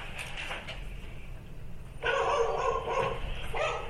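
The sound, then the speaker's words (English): A dog barks in a run of quick, high-pitched yaps during the second half, moderately loud over a low background hum, with no one talking. “This dog's calling.”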